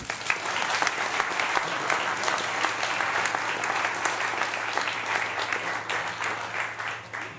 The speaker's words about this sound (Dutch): Dank u. Applaus.